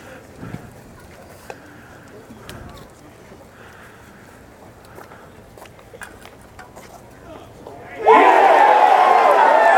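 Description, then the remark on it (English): A hushed outdoor golf gallery murmurs softly for several seconds, then erupts into a sudden, loud, sustained roar of cheering and applause as it reacts to Jason Duffner's putt in a finish against Adam Scott. “The crowd will tell the story.”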